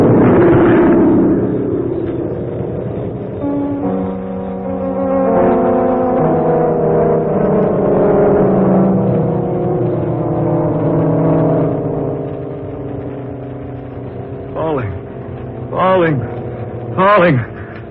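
A loud, rumbling blast as the burning New York plane explodes in midair gives way to a heavy droning engine with shifting tones, then three whistling sweeps dive steeply downward in pitch as the plane falls.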